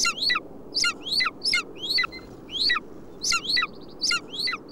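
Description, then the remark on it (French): Repeated high, bright chirps from a group of small birds in the hollow of a rock high in the mountains in winter, twittering in quick overlapping bursts over a steady low outdoor rumble with no talking. “Il y a tout un groupe de petits oiseaux dans le creux d'une roche.”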